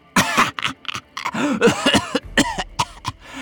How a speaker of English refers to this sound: He laughed at her, then it turned into a cough.